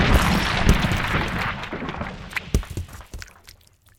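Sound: bomb explosion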